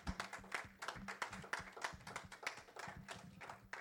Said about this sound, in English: Give him a round of applause for Jesus, because he is good.